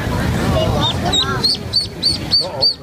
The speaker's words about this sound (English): All right, I now present to you the sound of baby ducks.